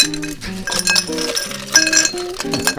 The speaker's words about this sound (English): So you get a tall glass, and you put in ice.